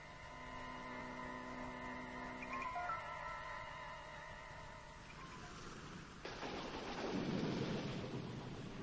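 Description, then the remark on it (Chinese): Steady rain hisses throughout while a deep, rolling thunder rumble swells up near the end, loud and heavy, over a faint sustained tonal drone early on. “又下雨了，还打起了雷，伴随着沉闷的雷声”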